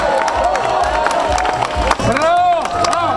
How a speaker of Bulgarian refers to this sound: Ала, това се казва женски. Вашите силни аплодисменти